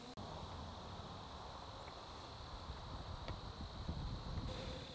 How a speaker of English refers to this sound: Opening the box up, bees are coming out.